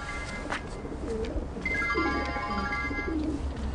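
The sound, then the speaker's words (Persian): Pigeons that are fed scattered seed every day coo in low, soft, burbling calls, three or four spaced a second or so apart, over a steady background murmur, with a thin sustained higher tone midway through. No one speaks. “خدا هر روز قدم من اینجا دونه میپاشم کپترها زیاد شدن.”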